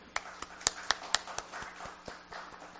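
Scattered hand claps in an uneven rhythm, several sharp and crisp at first, then thinning into softer, quieter claps over a low background hum.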